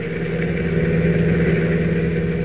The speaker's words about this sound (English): Meanwhile, miles away, Clark Kent, having been led to believe he is being taken to the executive offices of the CNL Railroad for an exclusive story, is riding in a car driven by one of the Wolf's henchmen, a man named Kino.